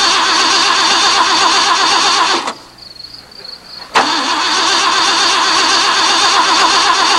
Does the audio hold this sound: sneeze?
no